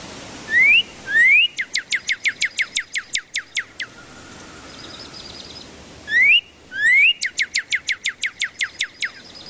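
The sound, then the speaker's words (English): A northern cardinal sings its clear whistled song twice: two rising slurred notes followed by a rapid run of repeated downslurred whistles, loud, with no talking. “They begin to sing in the late winter, early spring, and you see that male cardinal dashing across your yard to take up a post and sing its brilliant whistled song.”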